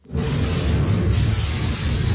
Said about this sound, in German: So hört es sich an, wenn der Akku eines E-Bikes explodiert und in Brand gerät. Die Flammen lodern fast 1 Meter hoch, heftiger Qualm breitet sich aus. Zu sehen in einem Video der Sachverständigenorganisation DEKRA.